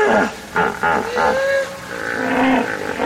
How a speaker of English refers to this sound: I've found that hippos often will herd in a pool, and then there'll be another pool down the river, maybe 2 or 3 kilometers down. And there seems to be an important communication between these groups. Hippos will chorus these bellows and other sounds